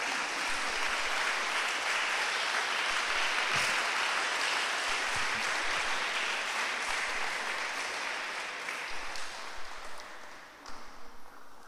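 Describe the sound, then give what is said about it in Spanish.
A crowd applauds in praise of God, the King of Kings, in a dense, steady wash of clapping that holds strong for several seconds, then thins into scattered, uneven claps as it fades toward the end. “Así que le damos un aplauso al Rey de Reyes.”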